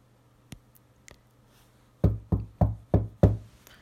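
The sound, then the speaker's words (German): Knocking on a hospital room door on Christmas Eve by a child dressed as Santa Claus: two faint taps, a brief pause, then five firm, evenly spaced knocks, each with a short wooden ring. No voices. “Es klopfte. Dann wurde die Tür geöffnet und ein kleiner Weihnachtsmann betrat das Krankenhauszimmer.”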